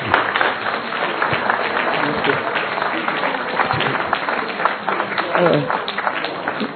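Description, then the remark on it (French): An audience claps steadily for several seconds for a lecturer, a dense, even wash of many hands that holds its level throughout, with faint murmuring voices mixed underneath. “Bon, eh bien, nous allons de nouveau applaudir notre merci conférencier.”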